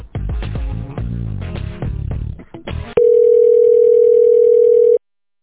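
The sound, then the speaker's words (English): An outgoing call rings on the line: after a few seconds of jumbled, tonal noise, a loud, steady ringback tone holds for about two seconds, then cuts off abruptly. “Hold on 1 second, and I'm going to get Ruth on the phone for you.”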